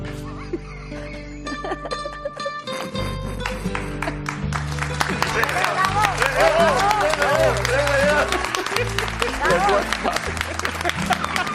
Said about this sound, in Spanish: Yo le estoy aplaudiendo a la guitarra.